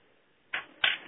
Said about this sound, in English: Oh, I saw you were typing, I thought. Okay, got some typing going on.